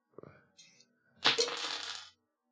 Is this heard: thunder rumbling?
no